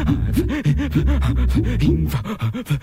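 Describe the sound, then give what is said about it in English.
A large wolfhound, standing, pants heavily and rapidly, wet, slobbering breaths in a steady rhythm for a few seconds, with no talking. “And he's just standing, slobbering and panting, looking at me.”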